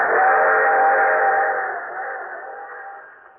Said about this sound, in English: This train is carrying oil to Port Arthur for use of our warships and aircraft carriers.